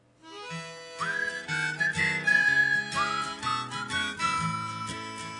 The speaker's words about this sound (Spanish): Posiblemente el silbido de esta canción pues sigue el mismo camino.